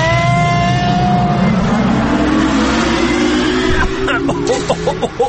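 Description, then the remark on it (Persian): A time machine starting up and travelling: a loud, steady mechanical roar with a whine that rises in pitch, breaking into quick pulsing bursts near the end. “آهان دیگه سفارش نکنم و ماشین جای خوبی میبری یا آفرین برو بریم.”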